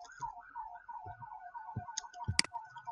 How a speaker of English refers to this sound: Our town firemen have their fun day running around town with the sirens, so I don't live in a really bad neighborhood, but this is what they do.